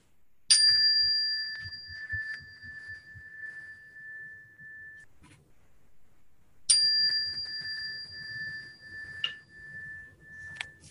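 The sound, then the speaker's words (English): A meditation chime is struck twice, several seconds apart, to start and then end a silent meditation, each strike ringing out clearly with a long, sustained tone that slowly fades, faint low rumbles between. “So I will hit the chime to start it, and then I'll hit the chime again.”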